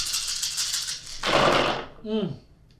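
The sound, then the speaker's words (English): Dice rattle and clatter for about a second as they are rolled to pick a discussion topic, then tumble in a louder burst of clicking, followed by a short voiced exclamation. “Let's go ahead and open it up with a dice roll and see which topic.”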